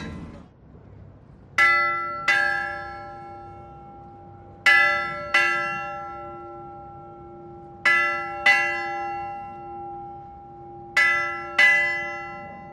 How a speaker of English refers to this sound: What an honour that was to be able to ring HMS Belfast Ship's Bell.